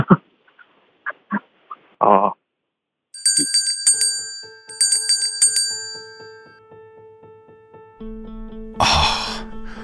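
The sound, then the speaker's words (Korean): After a few short faint sounds, a bright bell rings clearly in two quick bursts of repeated rapid strikes, marking the start of the initiative game, its tone lingering, followed by a louder noisy burst near the end. “종소리가 왜 이렇게 반갑게 들리죠?”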